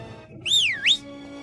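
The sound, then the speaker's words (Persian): A person whistles a short two-part note, a swooping rise and fall followed by a quick upward slide, clear over a faint low background hum. “من یاد میگیرم سوت بزنم.”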